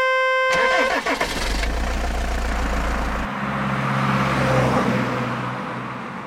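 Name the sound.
bus engine starting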